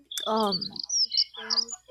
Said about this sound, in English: They also heard some birds.